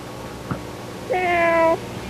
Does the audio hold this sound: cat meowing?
yes